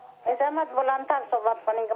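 Television audio playing in the caller's room, heard over a phone line: tinny, narrow-band voices talking in steady bursts with brief pauses, moderately loud and somewhat muffled, with no clear words coming through.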